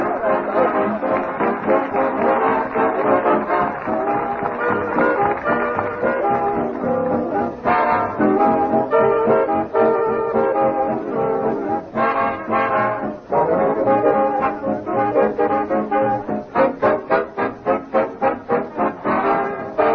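A swing band plays loudly and continuously, with a smooth, brassy trombone lead over the ensemble, turning into punchy, rhythmic accented notes near the end. No one speaks.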